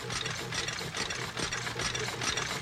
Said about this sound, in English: Cotton candy hangs on a crisscross of clotheslines overhead as the wheels and gears of a fire truck red taffy machine spit out 145 pieces a minute.